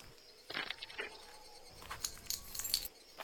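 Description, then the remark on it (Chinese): Keys jingle and clink in several quick bursts of bright metallic rattling, moderately loud, with short pauses between shakes and no voices present. “嗯，怎么会有一把钥匙？”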